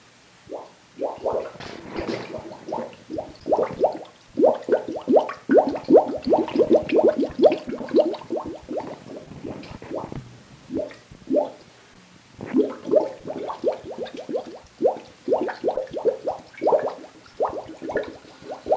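An old witch's brew bubbles and gloops continuously, a busy stream of irregular pops and bursts rising and falling in intensity like a boiling cauldron, with no voices.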